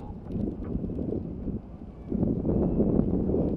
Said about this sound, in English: Can you hear me? It's really windy.